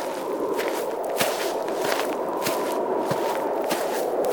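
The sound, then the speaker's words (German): Small, soft, careful footsteps of a person slowly approaching, avoiding any hasty movement, treading evenly over a gravelly or grassy surface, each step a light crunch at a steady, unhurried pace against a constant background hiss. “ging mit kleinen, vorsichtigen Schritten näher und vermied jede hastige Bewegung.”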